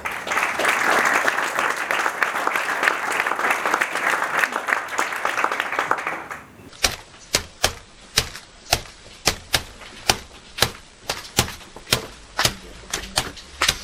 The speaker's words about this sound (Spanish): Aplaudimos.